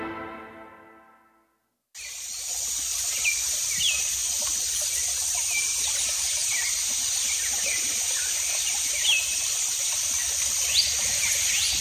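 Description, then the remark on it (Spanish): Dense Brazilian Amazon rainforest ambience after a brief fading tone and a moment of silence: a steady shrill wash of insects with scattered bird chirps and calls among leafy trees. “Esto que escuchas es la selva amazónica brasileña. Entre la multitud de aves que se escuchan y entre los árboles frondosos viven los miembros de la tribu Yanomami.”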